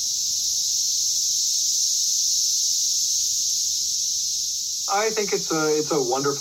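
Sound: cicadas singing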